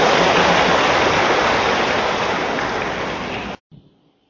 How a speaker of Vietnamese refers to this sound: Chúng con đây đầu cung thỉnh Hòa Thượng và xin tất cả hội trường dành một tràng pháo tay để cung kính Hòa Thượng.